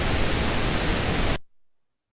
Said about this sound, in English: So let's hear what's coming up next. All right, so pink noise in.